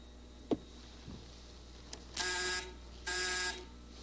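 Two loud electronic buzzes from a game button as it is pressed, each lasting about half a second with a short pause between, preceded by a few soft clicks and taps.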